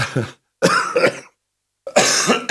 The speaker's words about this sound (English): excuse my cough. God, my chest's killing me at the moment. Every time I cough and then I wake up in the morning and it's just like everything needs to move